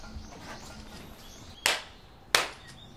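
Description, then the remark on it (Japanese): Two sharp, crisp ritual hand claps ring out in quick succession, less than a second apart, each fading briefly, against a quiet outdoor background with no talking; the two bows and two claps of prayer at Numakawa Shrine, a Shinto shrine. “じゃあ2杯2拍手。”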